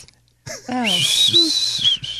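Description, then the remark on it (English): A breathy, airy whistle attempt, mostly rushing air with a thin high tone wavering through it for a couple of seconds, fairly loud, with brief vocal sounds at the start. “I wish I could whistle, man. That's nice. I was trying. It's just too much air. Like when I whistle, it's like this.”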